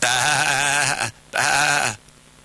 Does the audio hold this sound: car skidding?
no